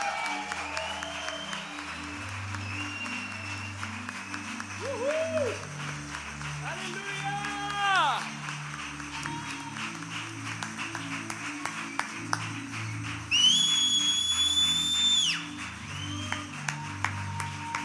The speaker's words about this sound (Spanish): Aleluya. ¿Cuántos queremos darle ese aplauso más fuerte a Jesús esta mañana?